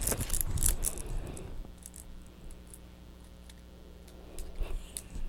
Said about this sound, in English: Can you clear the keys? Kind of like mama's keys, huh? They make noise.